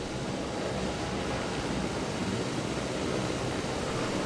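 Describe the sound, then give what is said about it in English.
A helicopter roars steadily at a private rooftop helipad, a dense, continuous whooshing drone that stays loud and even throughout, with no voices. “It's a helicopter.”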